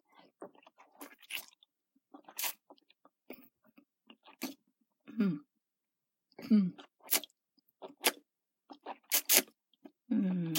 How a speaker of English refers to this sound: Was I swallowing so you could feel my throat close around your cock like this?